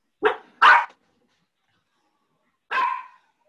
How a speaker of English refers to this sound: That's a nice dog. Breaks the tension a bit.